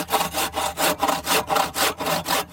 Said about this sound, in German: Die zierliche kleine Frau sägt Holzbretter auseinander für den Ofen in ihrer Sauna.